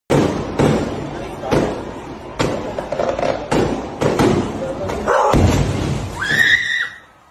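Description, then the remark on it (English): Fireworks go off in a string of sharp, loud bangs at irregular intervals over a noisy, busy background with voices, and a shrill wavering cry rises briefly near the end. “Just that two people somewhere, a male and a female, were watching fireworks from their window, and the femon got hit in the chest by a firework.”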